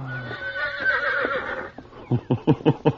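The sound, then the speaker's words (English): A horse gives a drawn-out, wavering whinny, then breaks into a quick series of five loud, pulsing snorts as the neigh trails off. No one speaks. “For why you look at Pancho, Senor Horse?”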